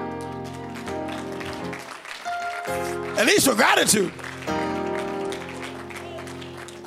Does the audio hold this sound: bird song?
no